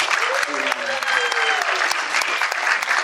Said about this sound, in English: So definitely an applause from us.